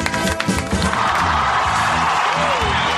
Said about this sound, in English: Can applaud the Todd Glass Show. All right. That's right. We don't do a shitty little applause. We play it up big.